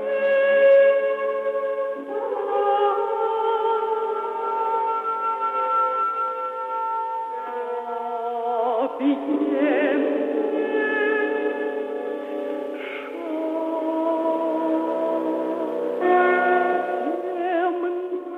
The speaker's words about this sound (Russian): Звучал отрывок из кантаты киевского композитора Валентина Сильвестрова на стихи Тютчева «Как океан объемлет шар земной, земная жизнь кругом объята снами».